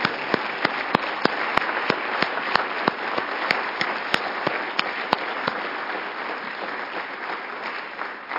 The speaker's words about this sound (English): So this is the group of individuals that helped make the wings possible. Appreciate very much all the work. How about some applause for the incredible job that they did?